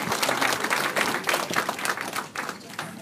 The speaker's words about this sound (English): So please, firstly, I know you don't do this very often, but I'm here, so please give Airbus a round of applause for the tremendous hard work.